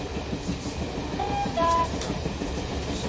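A slow train rumbles steadily along the rails heading north towards Norfolk, a dense rolling roar with faint rhythmic clatter and a brief high metallic whine partway through, with no voices present.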